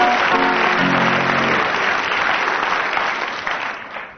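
Audience applause: a steady, dense burst of clapping from many hands, loud and sustained for a few seconds before tapering off slightly at the end, with brief tonal sounds mixed in at the start.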